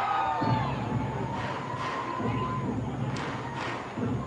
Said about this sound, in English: But as we mentioned a moment ago, you will hear screaming children, as is the case on education days throughout minor league baseball.